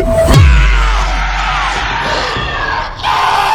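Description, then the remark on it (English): A loud, full-throated monstrous roar bursts in suddenly and rumbles on continuously as a monster chomps into a man's face, layered with the man's harsh screaming and wet gurgling as his blood drains, intense from start to finish. “The lusty, full-throated roar you hear comes from the monster”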